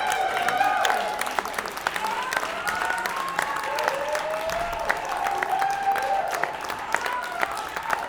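Sustained applause from an audience, dense clapping filling the whole stretch at a steady level, with scattered cheers and whoops rising over it.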